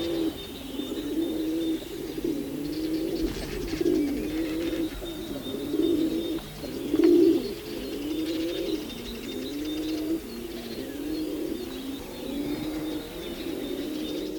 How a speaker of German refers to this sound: Und das klingt nochmal ganz anders als das Gurren von den Tauben, die wir sonst ganz viel bei uns in der Stadt sehen, von der Stadttaube. Das hören wir uns jetzt zum Vergleich auch nochmal an.